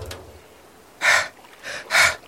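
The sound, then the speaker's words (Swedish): Heavy panting from down on the ground after the crow pushed Mamma Mu up the stairs: three loud breathy huffs in quick succession after a short quiet pause, each one a rough exhale of air. “Det hördes bara ett flåsande nerifrån marken.”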